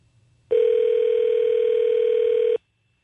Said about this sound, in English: Maybe somebody will just walk by and pick up the phone.